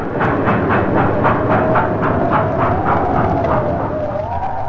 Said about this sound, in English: The blizzard grew worse. New York was cut off from the rest of the world. Trains lumbered to a standstill. None left the city, and few came in.